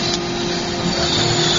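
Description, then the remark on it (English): A propeller turbine engine turned by its air starter without igniting, its turbine temperature rising to 840–850: a steady, dense whine and rush of air with no combustion roar, holding level and fairly loud throughout, plus a faint constant tonal hum underneath. “That engine just spun on the air start, which means, you know, when you're turning your car over and you can hear it going, rawr, rawr, rawr, rawr, rawr, your car's not actually running, it's just running on the starter.”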